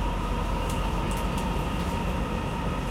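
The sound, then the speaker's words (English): A line U2 subway train toward the airport runs between stations, next stop Rathenauplatz, its steady, loud rumble and low mechanical drone filling the whole stretch, with a few faint brief squeaks and rattles above it and no voices. “Sie befinden sich in der U2 in Richtung Flughafen.”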